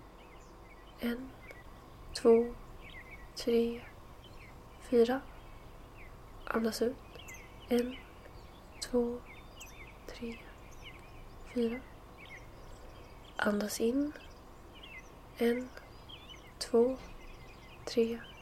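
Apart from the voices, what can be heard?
birds singing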